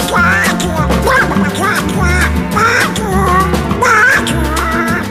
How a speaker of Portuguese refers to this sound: Les coins coins de son canard qui joue sous sa guitare. Quel joyeux tintamarre.